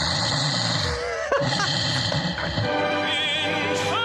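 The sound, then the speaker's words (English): A sleeper snores in a steady, rough rumble that runs throughout, thick and engine-like, with a brief louder snort and a faint warbling tone near the end. “All right, so that's me snoring.”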